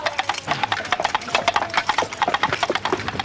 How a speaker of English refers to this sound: And then that's, of course, the king going by, clopping the sounds of horse hooves, even though he's not on a horse.